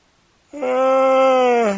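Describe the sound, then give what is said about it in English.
A loud, drawn-out voiced yawn through the microphone, a steady moaning tone that holds for over a second before sagging slightly in pitch at the end. “There's a good yawn for you, everybody.”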